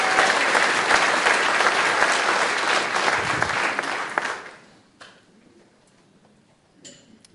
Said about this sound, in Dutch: Geef een groot applaus.